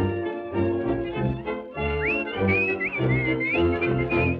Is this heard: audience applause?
no